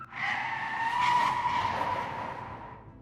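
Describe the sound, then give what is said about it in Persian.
A loud, sustained tire screech from an oncoming truck braking hard and skidding on a slippery street, its rear starting to swing around, a steady squealing tone lasting about three seconds before easing slightly, with no voices. “دیروز در یک خیابان لغزنده، کامیونی که از طرف مقابل می آمد ترمز کرد و قسمت پشتی آن شروع به چرخیدن کرد.”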